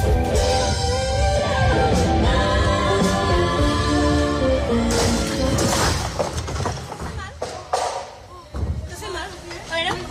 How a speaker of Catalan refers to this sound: Aquest era el moment en què el vent feia caure l'estructura d'on es pengen els llums sobre l'escenari i tirava a terra una de les components del grup i interrompia, evidentment, l'actuació.